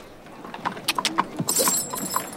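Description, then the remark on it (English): Horse hooves clip-clop in a steady, even rhythm as a horse-drawn carriage rolls along, moderately loud, with a bright metallic jingle joining in partway through. “You know I'm crazy about horses.”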